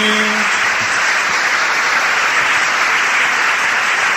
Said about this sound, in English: Oh, clap your hands, all ye people. Shout unto God with the voice of triumph. The Almighty God has all the people to clap their hands. Well, you can go ahead and do that.